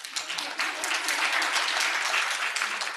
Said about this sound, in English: It is not funded in the same way as teaching and research, and we need to change that, ladies and gentlemen. Please clap.